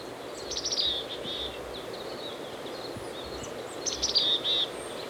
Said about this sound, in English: It's windy and there's a stream in the background. It's a side road here, E24. I've caught up with the chickadee on a steep hillside. He's foraging in pine branches.